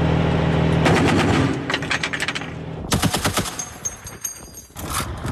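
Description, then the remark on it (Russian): Rapid bursts of automatic gunfire fired on command crackle in quick, repeated volleys, loud and sharp, with a steady low rumble underneath and a brief lull before another intense burst of shots. “Огонь!”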